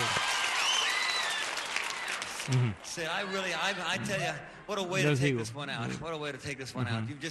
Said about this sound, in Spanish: La gente aplaude.